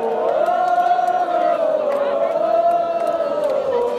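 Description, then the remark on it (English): A large crowd at the Guča Trumpet Festival in western Serbia sings the very last chorus of a Balkan song, a sustained, wavering melody, loud and continuous, carrying on after the performers have left the stage, with scattered shouts and whoops rising over the massed voices. “The folks are off the stage now, but the whole crowd doesn't want them to stop, so they continue singing.”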